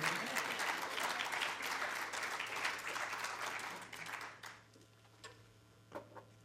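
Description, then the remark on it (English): An audience applauds with dense, steady clapping that holds strong for about four seconds, then thins out into a few scattered claps before fading. A low steady hum runs underneath. “You keep clapping.”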